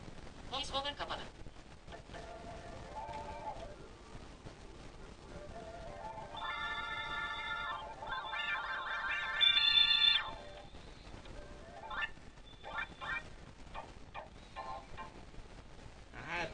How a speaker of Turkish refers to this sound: Değişik şeyler var, evet. Davul türü böyle değişik enstrümanlar var. Bir yere dokununca farklı bir ritim çalıyor. Yani farklı, aynı ismin farklı bir versiyonu çalıyor. İki parmakla bir yere dokununca farklılaşıyor ritim.